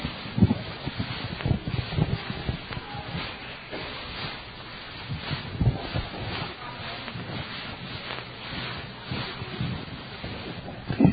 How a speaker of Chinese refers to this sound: 船长，我看不如这样吧，我们大家一起来收件，看看这场突然的暴风雨是因为谁的缘故。